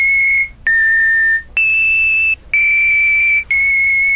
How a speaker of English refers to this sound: Five tones there, and two of them were the same, so that means there are four tones in use at least, but there were five digits, and my engineering background allows me to calculate 4 to the 5th power, or 1,024 possible unique messages